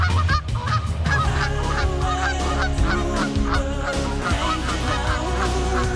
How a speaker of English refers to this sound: Looking at a Canada goose, you might not think their bodies are designed for fancy flying. But watch as a flock of geese comes in for a landing at a lake, and you might be surprised.